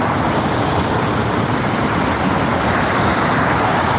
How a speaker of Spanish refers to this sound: Pero no es lo mismo sonido que ruido. Ruido, por ejemplo, es el del tráfico.